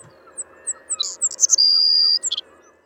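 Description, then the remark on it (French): A bird calls with a few quick high chirps, then one long, shrill, steady whistling note, followed by a short burst of notes over a low background hum. “Il y a vraiment une note qui est particulièrement sifflante.”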